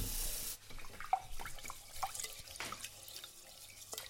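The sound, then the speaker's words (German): Water runs briefly from a tap, then gives way to sloshing and splashing as something is washed by hand in a sink, with small drips and scattered clinks of movement. “Dann wasche ich das jetzt.”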